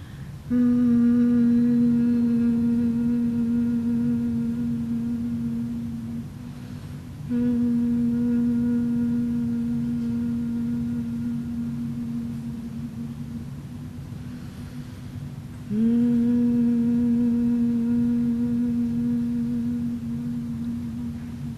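A low, steady human hum, done as a guided exercise after deep breathing, holds one pitch in three long, unbroken stretches, with short pauses for breath between them. It is fairly loud, with no talking.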